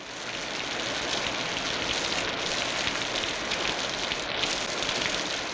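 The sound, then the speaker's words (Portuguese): Steady rain patters on a surface, a dense continuous hiss of countless drops that holds an even, fairly loud level throughout, with no voices. “Sinta a chuva que cai como no banho que você toma.”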